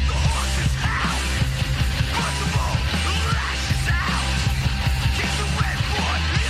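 A few seconds of a 94-and-a-half-minute, four-act rock song: loud, dense, thick distorted guitars and heavy bass over pounding drums, with raw shouted vocals, played at a steady, unrelenting volume throughout.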